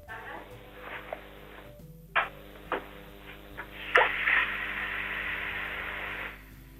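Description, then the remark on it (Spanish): A kitchen tap running during a sound test of a telephone line, heard faintly over the line as a steady, thin hiss that swells after a brief pause, with a few soft knocks and clunks along the way. “Deje el teléfono donde está y abra usted un grifo de la cocina.”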